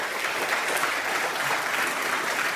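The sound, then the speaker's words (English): An audience applauds steadily, a dense wash of many hands clapping at an even, fairly loud level for the whole stretch with no voices standing out. It is another round of applause at a church for its young people who get involved and serve. “And so can we just for a minute, just give up another round of applause.”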